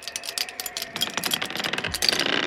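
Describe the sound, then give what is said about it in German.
A bunch of keys jangles as they are handed over, a steady run of bright metallic clinks and rattles lasting a couple of seconds, with no one speaking. “So, dann gib mal die Schlüssel”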